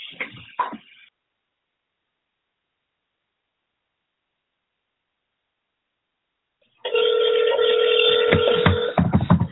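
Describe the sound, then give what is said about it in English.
After a brief rustle and a long silence, a telephone rings over a line as the hosts try to reach a woman by phone: a loud, steady, tinny tone with a buzzing edge that continues to the end. “Well, if you're listening, we're trying to get her on the phone.”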